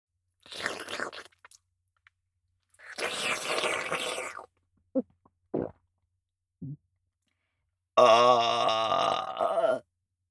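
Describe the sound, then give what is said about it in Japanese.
A long, loud burp rumbles near the end, following a few rough crunching bursts and brief wet clicks separated by silence. No one speaks. “ケツ穴にホーリーゲップ、ぶち込んでおきましたわ。”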